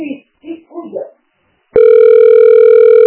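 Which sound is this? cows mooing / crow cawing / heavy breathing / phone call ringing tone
phone call ringing tone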